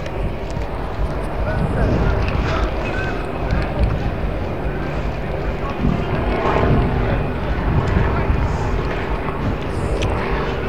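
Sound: helicopter flying overhead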